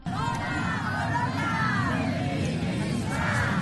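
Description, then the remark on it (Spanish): A dense crowd at a feminist demonstration on International Women's Day (8 March) in Navarra, Spain, shouts and chants together, many voices rising and falling in overlapping cries above a steady roar of babble, loud and continuous throughout. “Gritos de manifestaciones, como decimos, en ese Día de la Mujer.”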